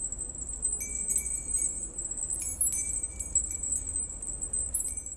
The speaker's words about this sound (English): Supplies include wood, fishing line, keys, old nails, and little bells that all come together to form a beautiful tinkling sound for your porch or window.